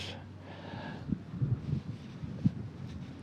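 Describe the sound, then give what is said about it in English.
Steady wind rumbles against the microphone on a windy beach by the surf, with low gusty buffets swelling now and then over a broad, hissing background. “The group that is here stands on a windy beach.”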